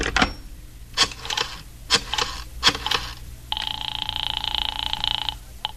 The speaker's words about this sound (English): I went into the living room and picked up the phone.